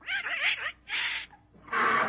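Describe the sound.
A duck named Herman tries to crow like a rooster, letting out three loud, raspy squawks: the first warbling up and down in pitch, the second flatter, the last a longer strained honk.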